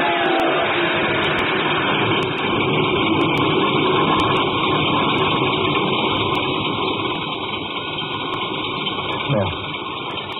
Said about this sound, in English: The starter worked at last. I managed to back up.